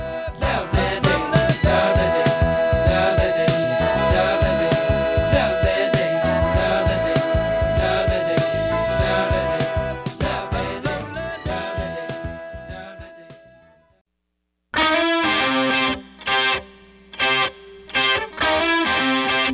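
A loud, distorted rock song with driving guitars and steady drums plays without talk as segment music leading into 'Three Things You Should Know' with Terry Bell, fades out, then after a brief silence returns in punchy bursts separated by short gaps.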